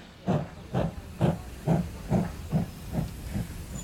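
A steam train hisses in a steady series of about eight heavy puffs, fairly loud, the bursts softening slightly toward the end as it comes to a stop after a stuffy journey of a few hours with crowded wagons. No voices.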